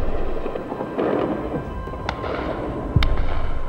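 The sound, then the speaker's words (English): Big machine guns on the tops of buildings fire tracer into the night sky at the start of the Gulf War, over a steady low rumble, with a few sharp cracking reports standing out, the loudest and deepest near the end. No one speaks. “The sirens went off at 2:40, and even before that, the big machine guns on the tops of buildings around here were firing tracer into the sky.”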